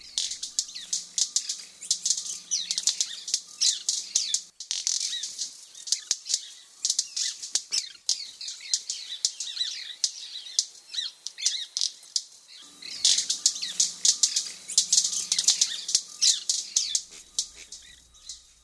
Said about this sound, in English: So here's what a white-bearded manakin sounds like.